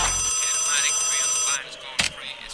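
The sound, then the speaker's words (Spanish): A phone's WhatsApp incoming-call ringtone plays clearly for about a second and a half, a bright warbling electronic tone, then stops abruptly, followed by a short click and quiet background noise. “Hello. Hola, WhatsApp. Hi, WhatsApp. Hello, WhatsApp.”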